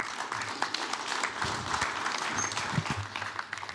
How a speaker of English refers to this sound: Another round of applause for our panel members, please. Thank you, one and all.